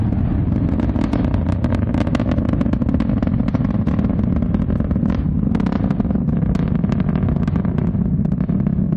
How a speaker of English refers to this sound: That is the Ariane 5 crackling into the sky and leaving behind it an enormous plume of steam and smoke and into the cloud and on towards the International Space Station.